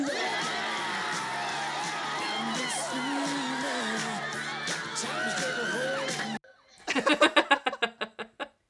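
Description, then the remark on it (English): A woman's joyful scream rises from a loud, dense crowd of whooping and cheering voices as teens dance to a film's theme song in a movie scene, followed after a brief pause by a quick run of bright, decaying laugh-like bursts. “I love her scream there.”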